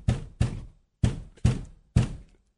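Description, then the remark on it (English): Earphones banged against a desk five times, loud thumps with a brief rattle after each, landing in an uneven rhythm of two quick hits, a pause, then three more. No one speaks. “I bang them on the desk or something”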